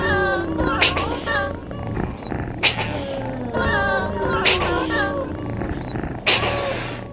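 Cat meows, pitched and stretched, repeat over a steady hip-hop beat with a thick bass line and sharp snare hits landing roughly every two seconds.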